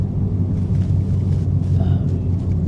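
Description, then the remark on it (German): A steady, loud low-frequency rumble with a droning engine hum from inside a car driving during the day, holding constant throughout with faint higher hiss of road and wind noise. “Ich bin wieder im Auto unterwegs, es ist Tag.”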